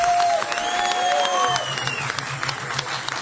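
An audience claps steadily and loudly to greet a singer who has arrived, with a few high, sliding whistles rising above the applause in the first second and a half before the clapping carries on alone.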